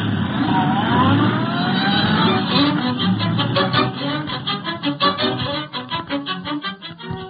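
A taxi's engine revs hard and pulls away, its rising whine settling into a rapid, pulsing drone that fades as it speeds off, heading to the Consolidated American Railroad building.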